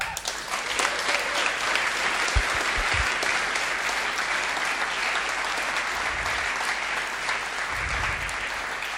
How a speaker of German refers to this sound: Genau, erstmal Applaus.